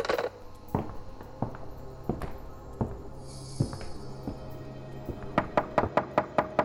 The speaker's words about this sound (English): Sorry to bother you so early, but would you mind knocking on our door? I just want to make sure the kids are up.